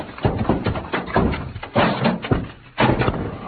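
Heavy stacked packing cases topple over onto Pancho, knocking him out and pinning a man's leg, in a loud, jumbled run of heavy wooden thuds and crashes, several impacts tumbling one after another with no speech.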